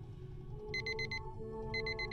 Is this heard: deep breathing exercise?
no